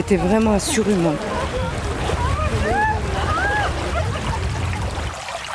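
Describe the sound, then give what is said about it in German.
A babbling brook at a meeting point in the village of Champs-Secrets, Normandie-Maine natural park, 100 kilometres inland, splashes and rushes steadily throughout in a continuous wash of water. A voice is briefly heard at the start, and a few high chirping calls rise over the flow. “Er plätschert ungefährlich dahin, der Bach am Treffpunkt in Champs-Secrets, 100 Kilometer landeinwärts.”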